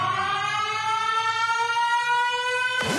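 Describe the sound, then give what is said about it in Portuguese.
A loud, steady electronic siren wails continuously with a rich, buzzy tone, played as part of a sound system test, ending in an abrupt sweeping shift near the end; no one speaks. “Sirenes.”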